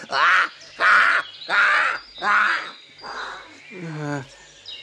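A raven caws six times in a steady series, harsh and loud at first, then softer, the last call dropping in pitch, with no talking over it.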